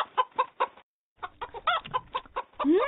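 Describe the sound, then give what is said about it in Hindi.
A rooster clucks in short, repeated bursts as someone tries to catch it, first three evenly spaced clucks, then a quick busier run of clucking and squawks ending in a rising call. “मुर्गा, अभी पकड़ता हूँ इसे।”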